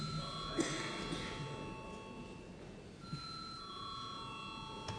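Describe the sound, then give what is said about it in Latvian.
A parliamentary voting bell rings in a steady, sustained electric tone for several seconds before a vote on a bill in its first reading, heard over a low murmur of room noise with a couple of faint knocks. “Lūdzu, zvanu.”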